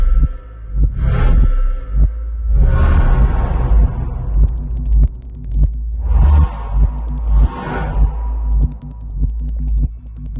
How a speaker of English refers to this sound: Synapses firing. These are things that we want to make an audio analog of. So there's a lot of clicking sounds. This is from the first episode of Hannibal.